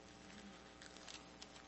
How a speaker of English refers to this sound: So Genesis chapter 2. I know I have actual paper pages I got to flip through.